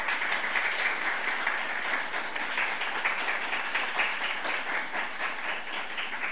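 An audience applauds steadily for several seconds, a dense, crackling wash of many hands clapping at an even loudness with no voices rising above it.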